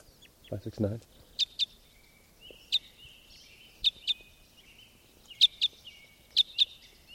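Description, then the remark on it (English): A type 5 bird, a newly arriving bird, gives flight calls as it flies: short, sharp, high chirps, mostly in quick pairs, repeating at irregular intervals over a quiet background. A brief low voice sounds just before the first call. “Here comes a type 5. This is a new bird. In flight, one call.”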